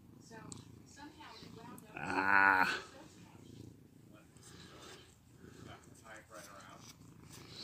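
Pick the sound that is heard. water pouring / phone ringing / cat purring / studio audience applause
cat purring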